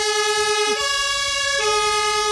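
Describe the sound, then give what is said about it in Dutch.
A fire engine siren wails loudly in a steady two-tone pattern, switching pitch back and forth at regular intervals, with the rumble of the truck beneath and no talking, as the fire brigade heads out to a house fire after the pager went off. “Nou, de pieper is net gegaan en er is een woningbrand en ze gaan nou die kant op.”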